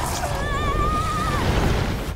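A lava worm creature lets out one drawn-out, wavering cry, shrill and whinny-like, that dips in pitch as it fades, over a steady low rumble that fills the background.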